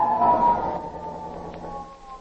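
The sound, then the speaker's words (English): A police car siren from a traffic cop stopping a car at the city limits of Carlton sounds a steady, sustained mid-pitched wail, fairly loud at first and easing slightly toward the end, with no talking over it. “I was stopped by a traffic cop.”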